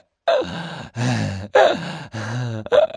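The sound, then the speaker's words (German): A boy groans and pants in quick, strained bursts, about five loud breaths alternating between low moans and sharp gasps, with no talking. “Er stöhnt wie ein Tier. Er atmet in jagender Hast und keucht auf eine noch nie dagewesene Art.”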